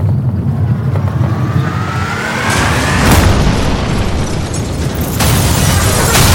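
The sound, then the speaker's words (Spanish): A deafening explosion blast whose shockwave lifts a vehicle off the ground: a loud, sustained low rumbling roar with sharper bursts of crackling noise surging partway through and again near the end, with no voices. “Un estruendo ensordecedor y una onda expansiva extraordinaria hicieron levantarse del suelo a nuestro vehículo.”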